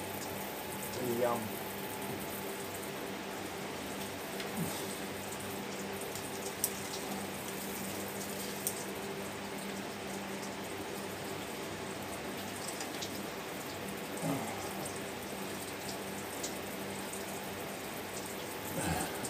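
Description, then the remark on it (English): Shower water runs in a steady, even hiss throughout, fairly soft and continuous, with a few faint clicks and brief background sounds but no clear talking. “Trying to have a shower.”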